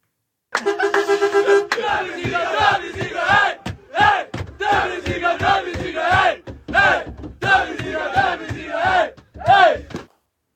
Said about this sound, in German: Ja, dieses Video ist leicht verstörend. Also, weil man hat den Einblick in diesen Bus und da sind so etwas, ja, ich sag mal, aufgedrehte junge Menschen, also das Team, in einem Knäuel vereint und brüllen einfach am Anfang,